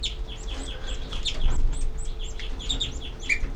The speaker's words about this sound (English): These are the babies giving begging calls.